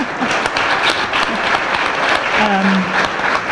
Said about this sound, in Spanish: Bueno, aplauso para todos.